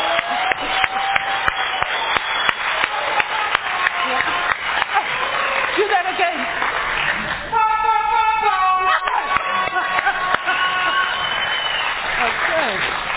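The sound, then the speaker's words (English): An audience at a meeting applauds steadily for over ten seconds, a dense wash of clapping with a brief raised voice or cheer rising out of it midway. “So can we give a special round of applause to the people who came before us, who approached us, who showed us the way, so that you can carry the next message.”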